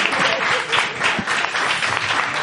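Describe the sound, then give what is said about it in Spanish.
Steady audience applause for the contestants of a quiz game, a dense wash of many hands clapping at an even, sustained level for a couple of seconds, with no voices standing out. “Un aplauso para nuestros concursantes.”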